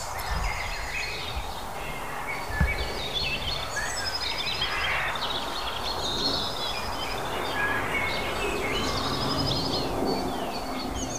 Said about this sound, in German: Und während die ganze Zeit aber um mich rum Vögel hier in die Büsche reinschießen.